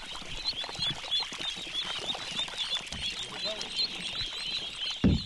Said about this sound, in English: The ducklings hop and tumble out of the bins at the edge of the rice paddy.